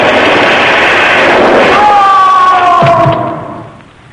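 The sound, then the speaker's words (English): A giant beanstalk breaks off at the root after being cut with an axe and crashes down: a loud roar of rushing noise, then a drawn-out groaning creak sliding downward in pitch, and heavy thuds before the sound dies away. “Now, Bullivant, get ready for the big fall, for the beanstalk is breaking off at the root. It's starting to fall. Out of the way, Margo, quick. Look out, she's crashing.”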